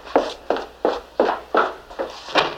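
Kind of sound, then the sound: impact, knocking on a door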